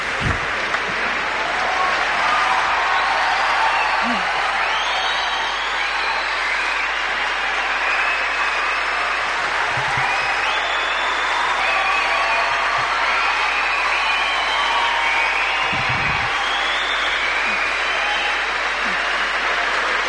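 A large crowd applauds continuously in Melbourne's town hall in 1990 as Nelson Mandela and his entourage arrive, people standing up: a dense, steady wash of clapping lasting about twenty seconds, with occasional voices and faint cheers rising within it.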